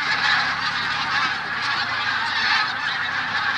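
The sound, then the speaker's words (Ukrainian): A huge flock of geese landing in spring roars in a dense, continuous wall of honking and calling, loud and unbroken throughout. No one speaks. “А шум несамовитий. Це просто так, як щось. Вода кипить, як сідає.”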